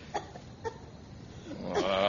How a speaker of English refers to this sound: Jiminy, I hear a dame coughing. I don't care if it's Mae West coughing. Well, maybe she needs help. There's smoke coming out.